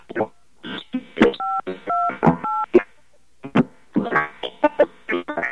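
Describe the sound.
Three short telephone touch-tone beeps, each a steady two-pitch chord, sound in an even quick sequence during a placed phone test call, with garbled, voice-like chatter before, between and after them.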